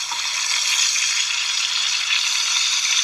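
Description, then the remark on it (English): Bacon sizzles steadily in a pan, a dense, even crackle of fine hissing pops that stays loud and continuous throughout, with no voices. “Oh, yeah, that bacon, you will say, oink, oink, I'm just so happy I got moinked.”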